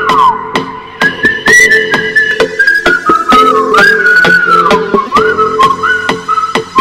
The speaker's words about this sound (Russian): сейчас для вас гимн воскресенья, гимн Take Music Party. Свистят все, свисти в такт музыке.